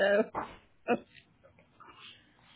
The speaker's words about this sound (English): I put myself back on mute because my dogs decided this was a good time to play fight right next to me.